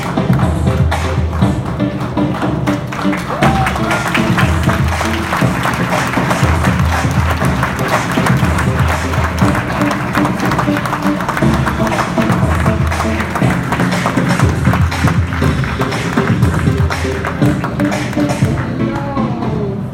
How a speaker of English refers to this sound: Na kraju krajeva možemo je pozdraviti velikim aplauzom.